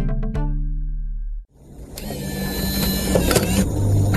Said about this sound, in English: You get in the car, the engines whir, and then off you go. Except, you haven't touched a wheel or pressed an accelerator.